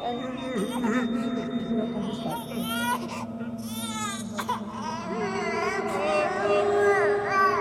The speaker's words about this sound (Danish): Den græder hele tiden, og jeg mener virkelig hele tiden. Den græder så meget, den her baby, at hospitalet bliver nødt til at bedøve den, så den her lille nyfødte krop får lidt fred og lidt ro